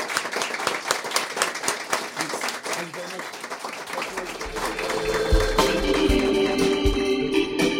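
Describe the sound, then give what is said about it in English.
An audience at Foxy John's in Dingle applauds Social Democrats politician Cash Murphy loudly with dense, steady clapping, then music with a deep bass layer rises beneath the applause about halfway through. “Big round of applause, Cash Murphy.”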